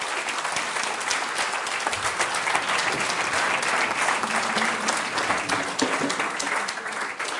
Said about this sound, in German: Gib Jesus doch mal einen Applaus. Sag Dankeschön, Jesus.